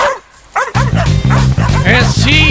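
A pack of dogs barks and yips in a loud, rapid, overlapping chorus, starting after a brief quiet moment and continuing nonstop over a steady low drone.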